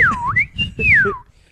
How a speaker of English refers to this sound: That isn't a comedy noise. I just whistled a bunch. It's not something they used to do on fucking comedy shows.